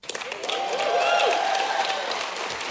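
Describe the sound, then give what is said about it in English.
Delegates at the Australian Labor Party national conference applaud enthusiastically the party's new overseas aid policy, a dense, steady wash of clapping that holds for a few seconds, with faint voices and cheers mixed into the noise. “It received enthusiastic applause from conference delegates, but as far as aid pledges go, Labor's new policy is hardly a big shift.”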